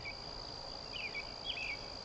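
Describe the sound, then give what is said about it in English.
Steady lush forest ambience on Earth filled with a continuous high insect drone, with a few brief chirping calls rising and falling over the background hum. No voices. “Lush forests.”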